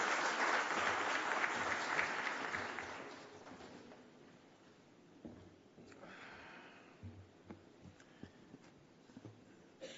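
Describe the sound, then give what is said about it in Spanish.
An audience in Santiago claps in a dense, steady burst of applause to welcome the executive director to speak, fading out over the first few seconds and leaving quiet noise with a few scattered small bumps and shuffles. “Recibamos ahora con un fuerte aplauso a nuestro director ejecutivo”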